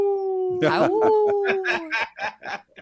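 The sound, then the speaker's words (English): Several people howl like wolves for the Timberwolves, one long wavering note held for about two seconds, then breaking into a string of short, rhythmic yelps and whoops that trail off, loud. “You know, you didn't howl with us, but maybe we should howl again for the Timberwolves tonight”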